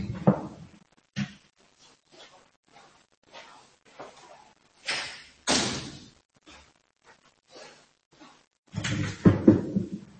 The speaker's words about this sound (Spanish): Pero voy a cerrar la puerta.